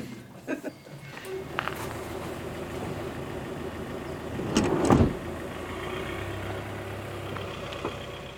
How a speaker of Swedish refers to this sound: iväg med sin färdtjänstbil.